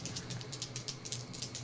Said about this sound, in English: Well, I'm rolling my dice. Ah, dice. 7 plus 3.